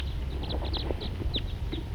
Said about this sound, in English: Birds just generally flying around here. Here comes another one.